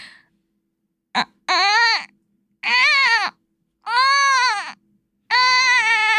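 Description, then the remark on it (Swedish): A voice imitates a newborn baby's crying in four loud, wailing bursts with short pauses between, each cry rising and falling, with no talking. “Det låter verkligen som en bebis som har ont i magen.”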